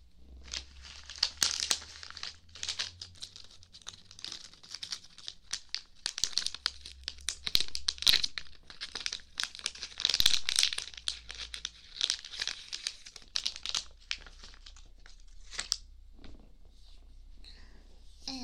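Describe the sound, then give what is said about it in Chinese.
Continuous rustling and crinkling with irregular bursts of rummaging as someone digs through a drawer looking for cotton swabs; no talking, just busy handling noises. “棉棒的话，抽屉里面应该就有的。嗯，等我找一下。”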